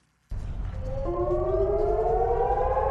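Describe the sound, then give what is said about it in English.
A loud rocket attack warning siren in Eilat, southern Israel, starts abruptly after a short silence, its steady wailing tones slowly rising in pitch over a rumbling low background, with no voices present. “When sirens warn of a rocket attack, residents of Eilat in southern Israel have about 30 seconds to get a shelter.”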